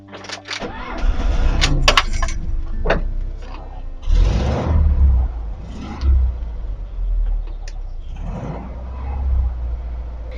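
A Volkswagen car engine rumbles deeply and steadily, with a few mechanical clicks at the start and loud throaty revs surging around the middle and again near the end.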